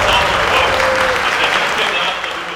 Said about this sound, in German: 500 Leute jubeln auf. Euronics Gaming spielt gegen Iguana Esports. Das Bayern gegen Dortmund des League of Legends.